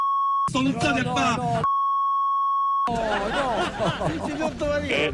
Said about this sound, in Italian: Scusate, insomma, c'era qualche bip qua e là.